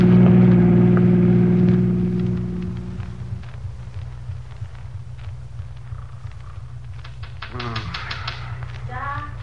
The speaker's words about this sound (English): Somebody's tapping on the window.